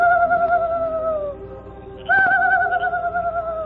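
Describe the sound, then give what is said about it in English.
Two long, steady whistled calls, each holding a slightly falling pitch, separated by a brief pause, loud: the Lone Ranger imitating a night bird's call as a signal at night on reaching a camp. “He signaled with an imitation of a night bird's call.”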